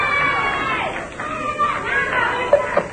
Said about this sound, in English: All right. Are all those people who are cheering for you relatives? No. Are they friends?